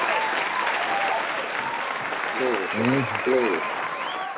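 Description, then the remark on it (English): A church audience claps steadily in a dense, continuous wash of applause, giving the Lord a hand of praise, and near the end a voice briefly speaks over the clapping. “You probably don't get that much clapping in the church, huh?”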